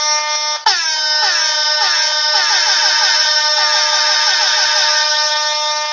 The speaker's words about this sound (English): We're excited about the questions. The air horn's telling you. We're excited about the questions, absolutely.